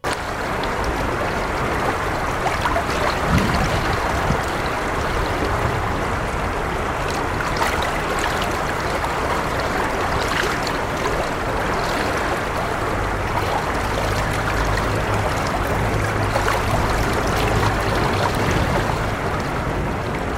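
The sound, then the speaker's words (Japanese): A river stream babbles steadily and continuously, a dense wash of flowing water from spring snowmelt on the Nakatsu River in central Morioka, Japan, recorded on the riverbank at the foot of a bridge, with a low rumble of passing cars faintly mixed in underneath. “今日は春の中津川のせせらぎをお届けします。”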